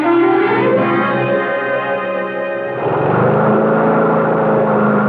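A lawn mower engine runs continuously as someone mows a shaggy lawn, a loud, steady buzzing drone with a rough harmonic hum that shifts slightly in tone about halfway through, with no voices.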